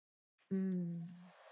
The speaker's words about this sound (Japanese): じゃあ、髪の毛、ドライヤーで乾かしちゃおうか。